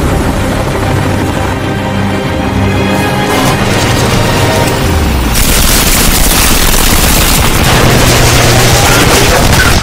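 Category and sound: impact, semi-automatic gunfire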